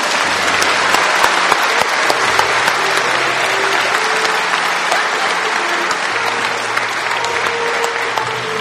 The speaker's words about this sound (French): Nous croyons que nous pouvons applaudir plus fort pour toutes les mamans, pour toutes les mamans, toutes les mamans,